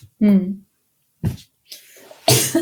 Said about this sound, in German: muss husten